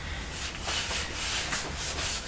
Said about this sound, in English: What are you doing? Crunching some of the cornflakes that are left on your tray.